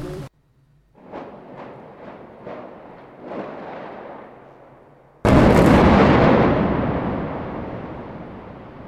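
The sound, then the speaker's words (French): A controlled demolition of the T17 tower block: a quick series of sharp detonation cracks, then a huge, sustained rumbling roar as the building comes down, loud. “L'explosion est encore décalée.”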